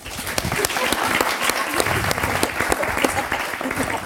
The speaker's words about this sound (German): Können wir den Applaus nochmal haben? Alle, die queer sind, Applaus!